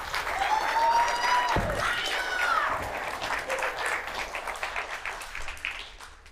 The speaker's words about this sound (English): So let's give Mariah a round of applause.